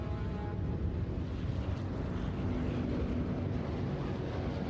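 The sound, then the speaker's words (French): A steady, heavy engine drone of aircraft approaching in the sky over a battle near Vinh Yen, deep and rumbling with a faint humming tone, holding at a constant loudness throughout with no voices. “Des avions.”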